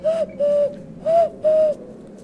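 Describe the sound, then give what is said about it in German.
A person imitates an owl's hoot: four steady, hollow hoots in two quick pairs, fairly loud, with no talking. “Ganz heimlich die Eule machen, hier so.”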